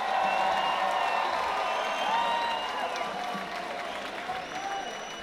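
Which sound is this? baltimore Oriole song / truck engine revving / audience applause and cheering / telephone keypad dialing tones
audience applause and cheering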